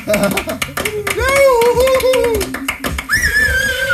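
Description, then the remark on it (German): A studio audience applauds a show candidate with a dense patter of clapping, mixed with shouts and a high whistle-like cheer toward the end. “Ihr dürft klatschen, hat seine Flasche inzwischen aufgekriegt.”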